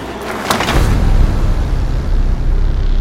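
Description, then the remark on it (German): A couple of quick thuds of the doors of a dark blue or black van shutting, followed by a steady low engine rumble as the van pulls away, loud, with no voices. “Oh Gott, jetzt steigen sie in einen Wagen. Was für ein Wagen? Ich weiß nicht, ein Van oder so, dunkelblau oder schwarz.”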